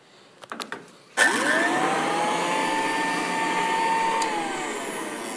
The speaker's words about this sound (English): He says vacuum cleaners were the first electrical appliances with a cord